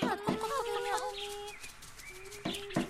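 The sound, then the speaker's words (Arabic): A hen clucks in a short burst of loud, pitched calls that rise and fall, followed by a pause and then two sharp clucks at the end, as she comes to open the door. “حاضر حاضر أنا قادمة. قد قد قد قد.”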